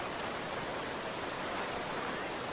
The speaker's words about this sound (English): Only a narrow stream stands between them and breakfast. Fed by warmed water from deep underground, it never freezes, even with the mercury stuck well below zero.